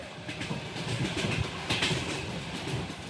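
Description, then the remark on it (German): Two special wagons of a Trans-Siberian Railway train roll along steadily, clattering over the rails with a dense, continuous rumble and faint rhythmic clicks, with no voices. “startete von dort in 2 Sonderwaggons der Transsibirischen Eisenbahn seine 55-tägige Rückreise nach Moskau”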